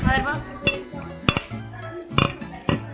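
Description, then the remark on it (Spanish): Two beer cans clink against a glass bottle in a toast at Terra Cafetería: about six sharp, bright knocks, several in quick doubles, spread irregularly over a low hum of background voices. “Eso, así es el sonido de dos latas de cerveza chocando con una botella de vidrio.”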